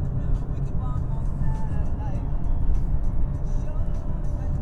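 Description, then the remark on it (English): Steady, loud car engine drone with deep rumbling road noise, the pitch shifting slightly as the engine works through the gears, and faint muffled voices in the background. “The engine is twitchy.”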